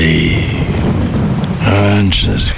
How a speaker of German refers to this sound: Naja, Regen. Ewig grau. Müssen Sie sich das anhören?